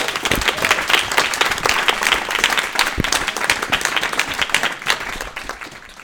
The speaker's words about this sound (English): Everyone, just give a round of applause.